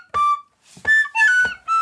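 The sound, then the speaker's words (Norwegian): Four short, loud blasts of a whistle being blown, each a shrill, reedy tone with a breathy start, separated by brief pauses; no talking. “Det fløyta, det krommen.”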